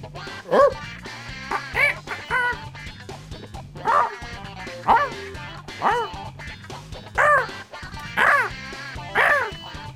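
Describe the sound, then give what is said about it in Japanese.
A person imitates a dog barking as an animal impression, letting out about nine voiced, yelping barks at a steady pace of roughly one per second, fairly loud over a low background accompaniment. “犬でバッドコミュニケーション”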